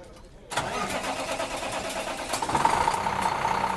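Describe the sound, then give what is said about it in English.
The engine of a bright white rear-loader garbage truck, provided by a host landfill for a rear loader driving competition, turns over after a brief quiet moment, then settles into a steady, rumbling idle that grows slightly louder, with no talking. “in the bright white garbage truck provided by the host landfill, leads off the rear loader competition”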